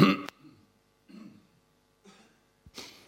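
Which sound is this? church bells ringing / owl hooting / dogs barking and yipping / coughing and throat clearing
coughing and throat clearing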